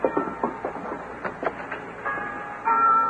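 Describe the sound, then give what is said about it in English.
A mission church bell rings repeatedly, its strikes ringing out in a steady rhythm with lingering metallic tones, a little muffled and heard alone without voices. “That's what my ma wants to hear, the mission bell.”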